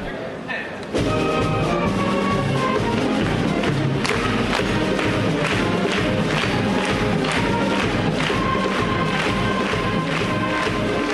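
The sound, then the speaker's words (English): After a brief quiet start, a loud crowd in a room with bleachers erupts into rhythmic foot stomping, steady applause and cheering that carry on continuously, as a band starts to play underneath the din. “The band started to play, feet started stomping, people applauded and cheered.”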